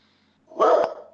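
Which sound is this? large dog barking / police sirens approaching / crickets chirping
large dog barking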